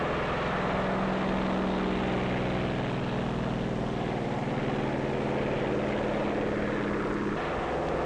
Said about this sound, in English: Also taking off from the carrier are control planes that will guide the radio-controlled drone boats.